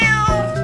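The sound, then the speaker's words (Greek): A single short cat meow, clear and close, with a bright harmonic tone that bends slightly in pitch before fading; no talking alongside it. “Ιστορίες για σκύλους, γάτες”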